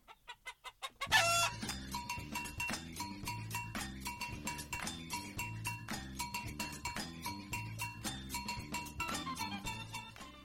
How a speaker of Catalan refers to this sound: Una gallina chica, tica, mica.